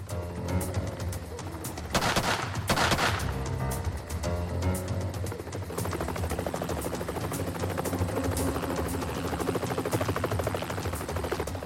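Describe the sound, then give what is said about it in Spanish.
A helicopter's rotor chops loudly and steadily overhead as it watches over a barn, with bursts of gunfire from a SWAT team sniper cracking through the din, including a heavy volley early on. “Mientras un helicóptero vigilaba al granero desde arriba”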